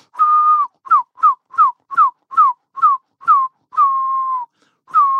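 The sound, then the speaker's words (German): A person whistles an imitation of a herring gull's call: a long held note, then a quick series of short rising-falling chirps, another long note, and a final chirp, clear with no talking. “Also von weit weg kannst du die pfeifen.”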